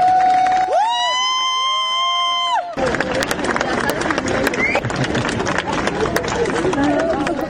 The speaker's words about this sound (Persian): بر اساس ویدیوهای منتشر شده در شبکه‌های اجتماعی، جعفر پناهی 2 روز پس از دریافت جایزه نخل طلای جشنواره فیلم کن، بامداد امروز وارد فرودگاه تهران شد و مورد تشویق مردم حاضر در آنجا قرار گرفت.